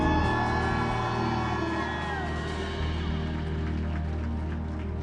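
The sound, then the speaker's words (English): A large audience shouts, whoops and cheers together for the risen Messiah in a loud, sustained roar, with a steady low hum underneath and no clear individual voice standing out. “Can I hear one more shout for the risen Messiah?”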